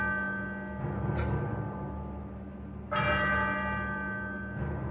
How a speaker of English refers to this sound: As the clock strikes 13, it's Monday, the 2nd of February, year of our Lord, 2026.